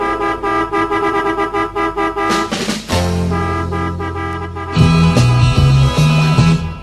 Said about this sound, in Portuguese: E a buzina desta vez eu sei que vai funcionar.